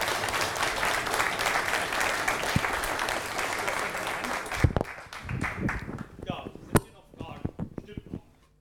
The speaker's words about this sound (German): Ja. Erstmal einen kräftigen Applaus